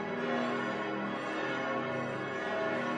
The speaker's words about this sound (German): Und die Glocken läuten auch schon.